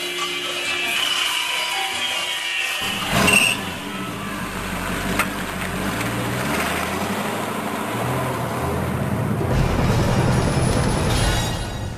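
A car engine starts up after a brief thump and then runs steadily as the vehicle drives, its rumble shifting in pitch, fairly loud, with no one talking.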